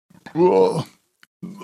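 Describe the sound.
A single loud, drawn-out burp after drinking a carbonated drink, lasting about half a second, deep and voiced, followed after a short pause by the start of a voice speaking.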